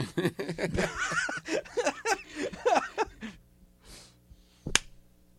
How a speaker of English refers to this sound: Ooh, the Hoosier clap.